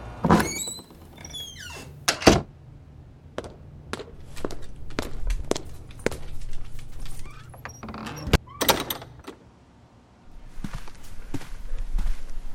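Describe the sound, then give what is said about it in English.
Sharp wooden knocks on the door of a house, three quick knocks, a pause, then knocking again, mixed with thuds, light squeaks and shuffling movement, with no one speaking. “I knock three times, quickly, on the door, and after a pause, knock again.”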